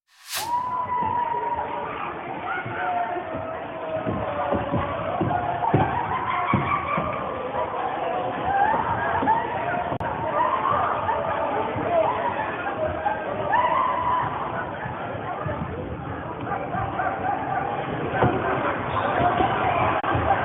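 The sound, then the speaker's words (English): A sports crowd roars steadily in the stands for the whole stretch, a dense wash of voices, with someone's high, wavering shrieks rising above the din now and then. “You can hear someone shrieking in the background.”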